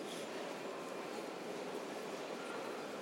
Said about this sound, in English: Come on, train. There's going to be a stampede in a minute. Yeah, because I presume everybody's waiting for this same train.